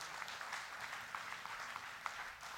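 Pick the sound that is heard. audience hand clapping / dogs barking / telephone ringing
audience hand clapping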